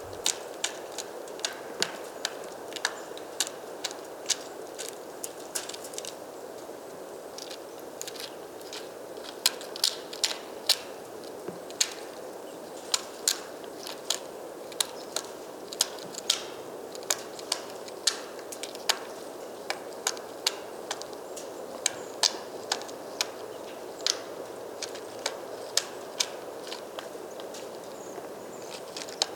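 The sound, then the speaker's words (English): A bird hammers at a black pine tree trunk, making small holes, with sharp, dry knocks arriving in irregular bursts and short runs, repeating steadily over a soft, constant background hiss, with no voices. “It was lovely to see it and hear it doing its thing, hammering black pine tree trunks, making holes, probably looking for food rather than making a nest, as the holes were quite small.”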